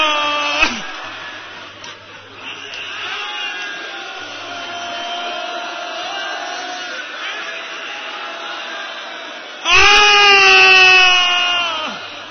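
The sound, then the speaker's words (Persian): Someone cries and wails in long, wavering vocal moans that swell and fade, with a louder, anguished burst of wailing breaking out near the end, in mourning just before the month of Muharram. “های های این الان اینطوری گریه میکنی هنوز غروب نشده، وای به فردا.”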